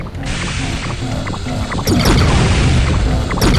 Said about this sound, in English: Whoa! Another one. Yes, I crashed into the trees.